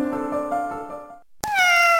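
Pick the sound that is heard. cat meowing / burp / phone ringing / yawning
cat meowing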